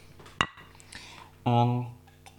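Glasses clink together in a toast: a short, sharp chink first, then a second, louder clink that rings on with a bright tone for about half a second before fading.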